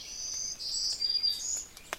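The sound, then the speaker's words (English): A black-throated green warbler sings a thin, buzzy 'zee-zoo, zee-zee-zoo' run of high notes that shift in pitch, in a quiet outdoor setting, with a few faint clicks near the end. “Hear that zee-zoo, zee-zee-zoo? That's a black-throated green warbler.”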